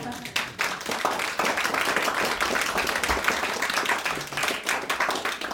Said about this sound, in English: And actually, I would like to give them a round of applause.